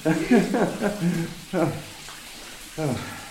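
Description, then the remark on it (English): A thin, steady trickle of running water from a once-famous waterfall, now reduced to a trickle, hisses softly underneath, while a voice speaks in short bursts over it. “Oh, here we are, the famous waterfall, which is reduced to a trickle.”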